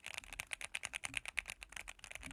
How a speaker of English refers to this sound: There's some cute little noises. That's kind of satisfying. Yeah. It's extremely satisfying. I gotta tell you, I find most mechanical keyboards are annoying as fuck.